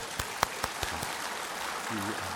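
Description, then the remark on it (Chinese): An audience applauds an 88-year-old woman for her testimony, a steady patter of many hands with a few sharper, louder claps standing out early on. Toward the end a voice briefly rises over the clapping. “为这缘故，大家鼓掌来。”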